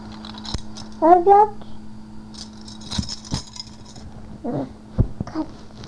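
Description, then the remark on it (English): Keys jingle and clink in short bursts, with a brief rattle near the middle. Brief vocal sounds and murmurs from people come in between the metallic jangles. “What's that? Keys?”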